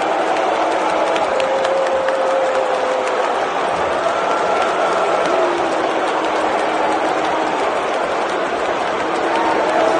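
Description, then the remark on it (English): A huge arena crowd roars without pause, booing a video being shown, long drawn-out booing tones rising and falling through the din while scattered clapping crackles underneath, loud throughout. “pay-per-view broadcast, but not with the sound of the crowd, which videos quickly circulated on Saturday night of them soundly booing this video.”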